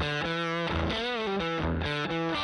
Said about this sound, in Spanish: Así suena el fuzz.